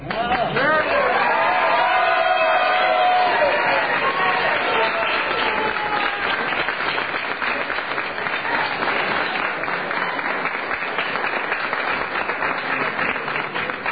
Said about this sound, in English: A very enthusiastic crowd here, as you can hear.